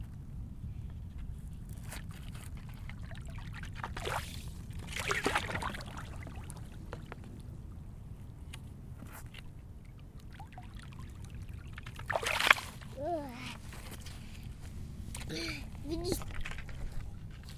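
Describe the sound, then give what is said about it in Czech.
Water sloshes and splashes in a steady churning rumble as waves are made, slowly growing bigger, with louder surging splashes every few seconds like waves slapping a container; a child's voice is faintly heard now and then. “Pomalu se dělají vlny. Se dělají to pořádný vlny. A se dělají ještě větší vlny.”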